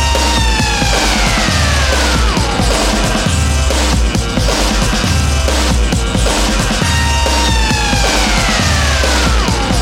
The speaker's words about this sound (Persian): و این صداهای آژیر مانند